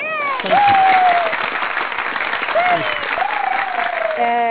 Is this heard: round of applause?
yes